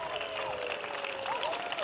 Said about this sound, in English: If you're our chimes master, would you please raise your hands right now so we can give you all a big round of applause and thank you.